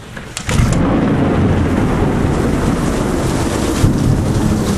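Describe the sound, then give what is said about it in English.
A heavy July thunderstorm roars steadily, heard from under a carport, with loud rumbling thunder and dense rain hissing across the whole span, plus a brief gusty buildup at the start. No voices. “Sitting under my carport with the rain and thunder and stuff going on.”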